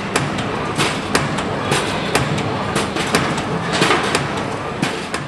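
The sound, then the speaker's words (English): Spring-making factory machinery at the Jubilee Spring Company in Urimba on the New South Wales Central Coast, Australia, runs with a dense, steady mechanical roar, punctuated by irregular sharp metallic clanks and clicks that keep recurring throughout. “We're broadcasting this morning from the Jubilee Spring Company at Urimba on the New South Wales Central Coast.”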